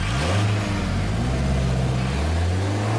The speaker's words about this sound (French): Et oui, en exclusivité, voilà le moteur de cette Mercedes de 1955. Oui, bon, c'est peut-être une Twingo, mais peu importe.